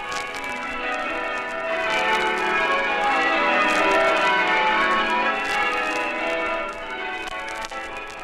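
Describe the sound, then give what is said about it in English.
A peal of church bells rings out continuously over the River Avon in Warwickshire, England, many overlapping clangs blending into a rich, resonant wash that holds steady and loud throughout, with no voices present. “And whilst this was happening, the church bells were a-ringing, their joyous clangings echoing over the gently flowing Avon and to the leafy meadows beyond.”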